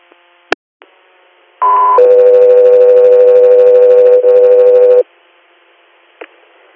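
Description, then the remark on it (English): Loud radio dispatch paging tones for the unit South 3 Air: a brief higher pitched tone steps down into a long, steady lower tone lasting about three seconds, framed by faint radio clicks with no voices. “South 3 Air, stand by for tones.”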